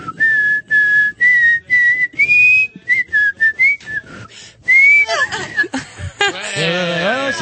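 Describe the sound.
Someone whistles a short tune in clear, high, steady notes broken by brief pauses. The melody stops near the end, giving way to laughter and voices.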